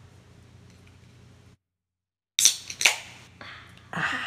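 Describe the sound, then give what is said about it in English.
A can of hoppy beer's pop-top cracks open with two sharp, bright snaps about half a second apart, followed by a steady hissing fizz, after a quiet low hum and a brief silence. “Let's pop the top on that hops.”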